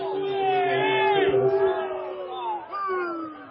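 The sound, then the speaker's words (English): A large football stadium crowd boos and jeers after an incomplete pass and a penalty flag, a loud, sustained roar of many voices, holding steady for several seconds with a brief dip before swelling again. “Crowd doesn't like that.”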